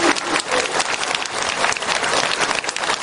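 A crowd applauds steadily for a few seconds, many hands clapping in a dense, even roar with no voices rising above it.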